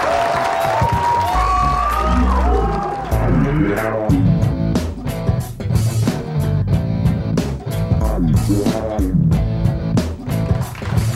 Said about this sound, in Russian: Ваши бурные аплодисменты!